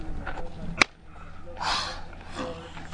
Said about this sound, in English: Mawashi, the loincloth that sumo wrestlers wear. Well, you kind of got to hear it to believe it. Let's roll it, Griggsy. He starts out by slapping himself.